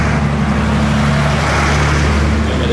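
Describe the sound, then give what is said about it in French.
A huge truck's engine rumbles loud amid street traffic on a street of shops, a deep steady drone with a broad wash of road noise that holds throughout, no voices. “Il y a l'énorme camion.”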